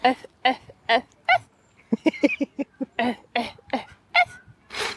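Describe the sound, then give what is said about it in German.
A dog barks repeatedly in quick, uneven bursts, a dozen or so sharp yaps close to the microphone, with a slightly whiny edge toward the end and no talking. “Die haben da ja Timmy den Hund, ne? Meinst du, der macht irgendwann mal einen anderen Bella?”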